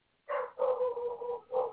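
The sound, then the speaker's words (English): A dog barks three times: a short bark, a longer drawn-out one, then another short bark, with no voices around it. “I can see if I can shut this freaking dog up.”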